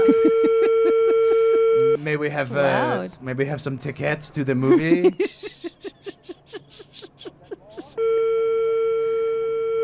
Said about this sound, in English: Oh, it got us a noise. That's like a European ringing. Maybe.